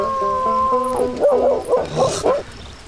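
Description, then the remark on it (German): A dog howls, a long steady note breaking into several wavering, rising-and-falling cries. No one speaks. “Was brauchst du zu spielen, wenn der Hund heult?”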